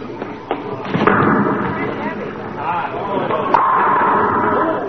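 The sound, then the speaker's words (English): A bowling ball crashes into pins, knocking them all down, giving a few heavy thuds and a dense, lingering clatter, with a murmur of voices running underneath throughout. “Oh, I knocked them all down.”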